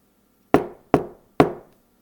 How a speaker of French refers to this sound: Il frappa à la porte du manadier.